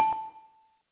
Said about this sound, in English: And the bell.